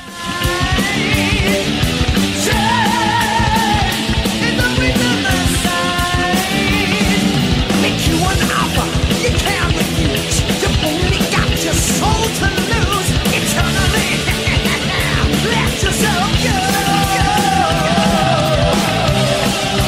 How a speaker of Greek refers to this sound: διαδηλωτές συγκεντρώθηκαν αρχικά στην πλατεία Χάνθ και στη συνέχεια πορεύτηκαν μαχητικά και δυναμικά στους δρόμους της πόλης, φωνάζοντας συνεχώς συνθήματα κατά της αντεργατικής και αντιλαϊκής πολιτικής κυβέρνησης και κεφαλαίου.